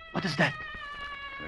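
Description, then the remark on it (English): The drawn-out, cat-like yowling call of a dacoit holds a steady, slightly wavering high pitch for the whole moment, with a man's brief spoken question over its beginning. “That was the call of a dacoit.”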